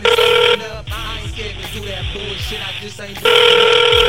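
A phone rings on an outgoing call: two loud, buzzy ring bursts, one at the start and one at the end, separated by a pause filled with quieter background voices.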